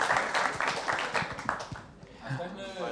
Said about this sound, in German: Hier, unser Techniker, Applaus bitte, ja.